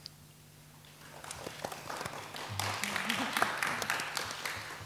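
An audience breaks into applause, the clapping swelling from a quiet start into a dense, steady patter of many hands, with faint murmuring underneath, at a poetry event as the critics are introduced.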